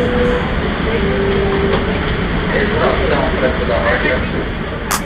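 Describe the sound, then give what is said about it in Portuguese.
A train rumbles steadily and loudly, its heavy low roar and rattling wheels filling the whole stretch without a break. “Surgindo de trás das montanhas azuis, olha o trem.”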